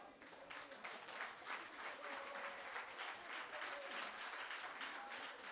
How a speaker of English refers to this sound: Somebody give God a clap offering.